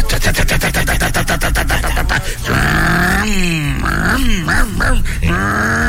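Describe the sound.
A voice imitates a bus engine starting as the bus pulls out of the garage: a rapid, rough sputtering rattle for about two seconds, then rising and falling vocal revving whines that swoop up and down in pitch, loud throughout.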